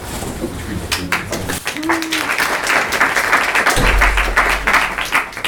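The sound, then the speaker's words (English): An audience claps steadily as the next speaker at a talk is introduced, a dense wash of many hands that keeps up for several seconds, with a brief low tonal note and some rumble mixed in partway through. “Don't clap until the end.”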